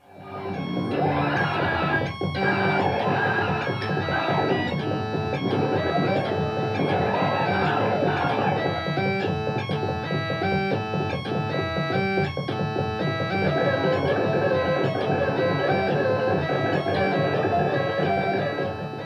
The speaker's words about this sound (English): We're both playing keyboards, and Pat is playing synthetic percussion.